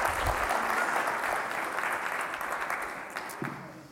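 A round of applause from a group, dense steady clapping that stays loud throughout and thins slightly toward the end, with a few brief voices at the close.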